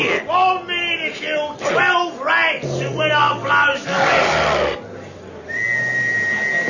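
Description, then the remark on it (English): Excited shouting and yelling voices, readying Smiler for a contest against 12 rats, give way to a single shrill, steady whistle blast that holds for over a second at the end, loud. “12 rats, and when I blow the whistle.”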